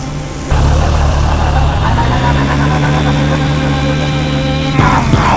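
vehicle, airplane engine taking off

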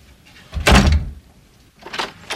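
household object, door being opened

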